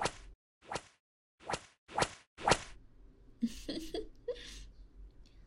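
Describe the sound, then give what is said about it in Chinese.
Five sharp whip lashes strike a person's back in a quick, uneven series, each a loud snap with a brief swish, followed by strained vocal cries muffled by a towel stuffed in the mouth. “被毛巾堵住嘴巴就叫不了了呢，那就先用鞭子在你背上抽一下。”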